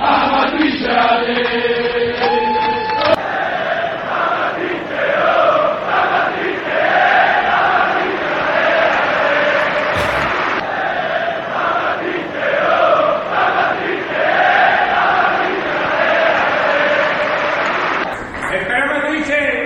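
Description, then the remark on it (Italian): A large crowd of Atalanta and L'Aquila football supporters chants together in a stadium, voices rising and falling in a loud, steady, rhythmic singalong that fills the whole stretch without pause. “Buonasera, sulle note della tifoseria dell'Atalanta, dell'Aquila, che rappresentano le tifoserie di tutta Italia che si sono strette attorno alla nostra terra facendo delle iniziative straordinarie”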